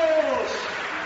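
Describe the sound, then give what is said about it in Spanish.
A packed basketball arena crowd of CAI Zaragoza fans at the Príncipe Felipe pavilion gives a loud, sustained ovation dedicated to José Luis Abós, a dense wash of cheering and applause with a brief shout rising out of it at the start. “Esta ovación de toda la marea roja es para ti, José Luis.”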